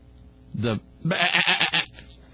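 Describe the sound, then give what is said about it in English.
A sheep bleats twice, fairly loud: a short baa, then a longer, wavering one with a trembling quaver, and quiet background between them. “Is that FAA or BAA?”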